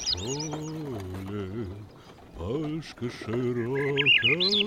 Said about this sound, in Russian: Красив июньский лес. Березы радуются летнему наряду, птицы щебечут одна звонче другой.